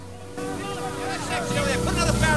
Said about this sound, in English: Police boats draw up on the water under the wrecked bridge.